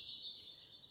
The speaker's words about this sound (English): The birds are jealous. I don't know if you can hear the birds in the background, listeners, but they're jealous of all the new helicopters. They're chiming in as they're like, no, this is our space.